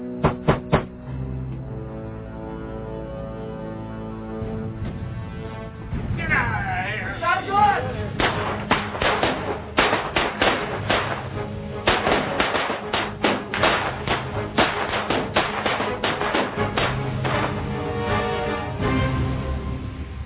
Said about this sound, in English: In that hail of bullets, Dr. Winsmith was hit 7 times.